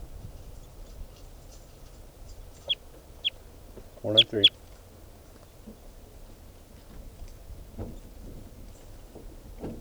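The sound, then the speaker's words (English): A bird call: a couple of sharp high chirps, then a brief loud burst of clucking squawks around four seconds, over a low steady background murmur. “This now is bird 490.”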